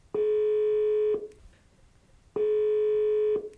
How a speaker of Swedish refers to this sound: Men nu ringer vi honom.